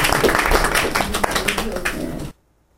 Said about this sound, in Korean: 또 오늘 그 여기에 따님 아드님들 또 어머님과 누님도 오셨는데 오신 귀빈들한테도 감사하다고 박수로 환영합니다.